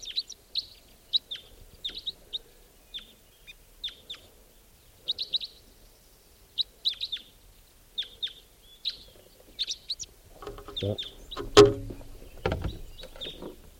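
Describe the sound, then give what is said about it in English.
A lone type 4 red crossbill perched in a tree near a net calls: a steady series of short, sharp, high kip notes, single and in pairs, before rustling and low thumping noises take over near the end. “Recording just a few minutes ago, white-winged crossbill flew over, and now I think that one lone type 4 bird is back, and it's perched in a tree near the net.”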